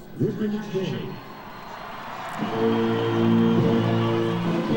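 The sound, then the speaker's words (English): A crowd at the presidential inauguration, including the House of Representatives on their feet, cheers the arriving Vice President in a steady, broad roar that swells partway through, with sustained voices and shouts rising above the noise. “You can hear the cheers from the crowd here assembled.”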